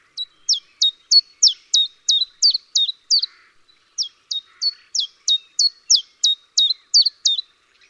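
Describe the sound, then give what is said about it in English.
A chiffchaff sings its two-note song, a steady string of sharp, high chiff-chaff notes repeated evenly, pausing briefly midway before continuing. Clear and alone with no other sounds. “So it's chiffchaff, chiffchaff.”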